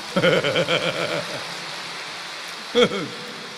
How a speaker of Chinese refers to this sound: 对， 鼓掌。